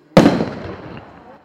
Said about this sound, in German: Jetzt gerade wurde hier sehr laut ein Böller gezündet.